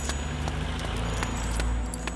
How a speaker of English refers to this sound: After a little while, Nanoka and Shiro arrived home. Nanoka darted in front of the Persicon, pulling her keys out of her pocket.